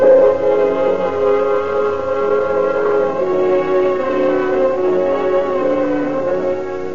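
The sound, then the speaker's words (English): An ambulance siren, taking an injured young man to the receiving hospital, wails steadily for several seconds, its loud, harmonic tone gliding slowly up and down in pitch with no voices present. “Call the ambulance, Jerry, and we'll get this kid to the receiving hospital.”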